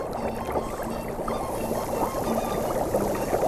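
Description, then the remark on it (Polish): Continuous bubbling, gurgling water from a cold underground river welling up to the surface at a salt spring, a steady, busy liquid churn with small pops throughout and no voices. “I ta woda, która bulgocze, to podwodna rzeka, która wypływa na powierzchnię i tworzą się takie bąbelki.”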